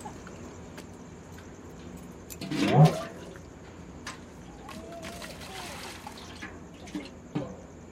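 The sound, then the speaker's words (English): Water sloshing and splashing as last night's cooking pots are scrubbed clean early in the morning at a street corner, with one louder burst of clattering and splashing early on, then quieter intermittent rubbing and dripping against a faint background hum and faint voices. “And at the corner with Apna Chopadpati, one early bird's already scrubbing clean last night's cooking pots.”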